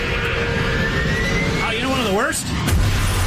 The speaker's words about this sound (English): Asteroid lands on your smart car. That is the worst.